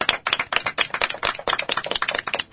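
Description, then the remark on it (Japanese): A few people applaud a university student's self-introduction on a radio programme, a quick, steady patter of hand claps, dense sharp slaps running continuously for a couple of seconds with no voices over them. “イェイ、ミスベップ、拍手。”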